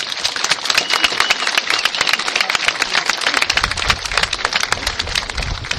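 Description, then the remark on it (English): An audience applauds the cast and everyone who set the event up, steadily for several seconds: a dense, even patter of many hands clapping at once with no voices on top, holding roughly the same loudness throughout. “So if we can give them all a big round of applause, please.”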